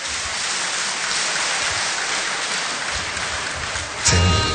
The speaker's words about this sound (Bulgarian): Аплодисменти за Николина Чакърдъкова!